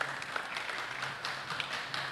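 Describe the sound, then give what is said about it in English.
A crowd claps steadily for people coming forward to be prayed for, a dense, even patter of many hands with occasional sharper claps standing out. The applause stays at a moderate, constant level throughout, with a faint low hum underneath. “Let's clap for them as they come.”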